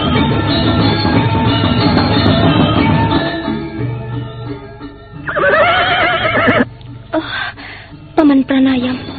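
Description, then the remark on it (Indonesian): A horse neighs loudly in several bursts, with a long whinny in the middle and shorter snorts near the end, and there is some background noise and rustling throughout. “Silakan naik ke atas kuda.”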